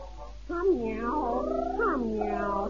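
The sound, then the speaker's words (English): A cat lets out long, wavering meows, two drawn-out rising and falling calls that run together, fairly loud, over a faint background hiss with no talking. “Come out, my pretty kitten. Meow, not meow.”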